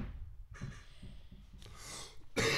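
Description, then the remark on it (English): A sneeze: a few breathy, hissing inhales build up, then a sudden sharp burst of noise at the end. No one speaks. “Bless you.”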